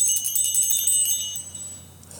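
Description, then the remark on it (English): A bright, high metallic chime rings out clearly, its shimmering tones sustaining and then slowly fading away over about two seconds, with no voices present. “When you're ready, Chime us in with this one.”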